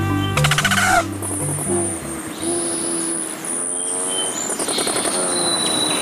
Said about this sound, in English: Here they come. Rufous hummingbirds, ruby throats, and others are migrating north after a hot, dry winter in sunny Mexico or Central America. And they're ready for a drink.